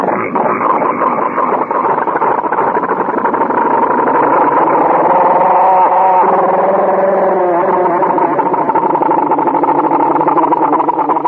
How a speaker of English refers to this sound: You want to hear that engine again? Let's hear that go.